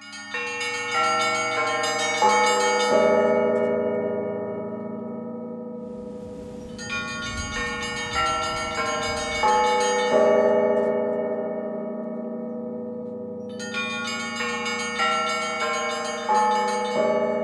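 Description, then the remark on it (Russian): Church bells of the Donskoy Monastery peal continuously at midnight to welcome Patriarch Alexy, several bells of different pitches struck in overlapping rhythmic cycles, loud and resonant with long ringing decay, no voices present. “Мы колокольным звоном его встречали.”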